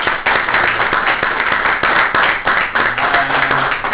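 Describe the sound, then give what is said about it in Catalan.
Dense applause from an audience at an event in Sant Cugat fills the whole stretch, a steady wash of many hands clapping at once, loud, with a few faint tonal sounds rising under it near the end. “Molt bé, si us hi sembla, un aplaudiment i un”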